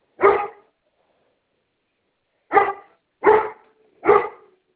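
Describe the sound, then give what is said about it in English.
A dog barks four times, loud, at home during a phone call: one bark, a pause of about two seconds, then three quick barks in a row. No one speaks. “Sorry, my dog's going off.”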